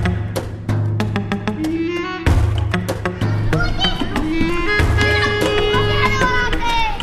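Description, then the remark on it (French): Children play basketball in the covered courtyard of a Jesuit school in Beirut, their voices and shouts overlapping, with sharp thuds of the ball bouncing through the din and a constant steady crowd hum beneath, as families with suitcases gather to depart. “On est dans ce préau de cette école, il y a des enfants qui jouent au basket et des familles, beaucoup de familles avec leurs valises qui sont prêtes au départ.”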